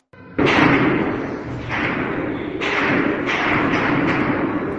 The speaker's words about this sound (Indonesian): Dengar suara baku tembak dan dentuman bom terdengar di sekitar ibu kota Khartoum hari Minggu ketika pasukan militer dan kelompok paramiliter yang kuat bertempur memperebutkan kekuasaan.